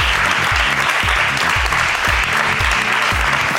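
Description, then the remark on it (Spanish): An audience claps loudly and continuously for several seconds for a contest winner being called up to receive a prize, a dense, steady wash of applause with a regular low thumping beat running underneath. “Pues, con la primera, pues un aplauso”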